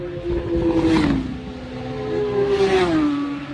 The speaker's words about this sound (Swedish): Motorcykel. Vi är alltså live från Hillbury, väntar på den svenske föraren Björn Gunnarsson vilken sekund som helst.